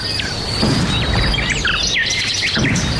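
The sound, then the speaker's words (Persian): Many birds in flight chirp and tweet in quick, overlapping bursts against a steady outdoor hiss, a busy chorus of calls with no voices. “شنونده های عزیز سلام، درب برنامه را می گوشاییم و پرواز پرندگان را به تماشا می نشینیم که از بیم وسایل شکار شکارچیان در پروازن.”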